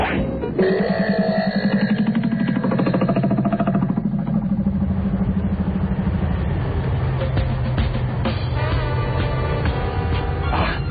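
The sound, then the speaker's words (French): A car engine roars steadily at high revs, its pitch shifting as it accelerates, loud throughout with no voices over it. “Vous pouvez lever le pied. On a bien semé le cortège.”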